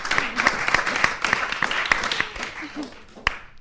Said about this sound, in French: Un applaudissement pour vous aussi. Encore.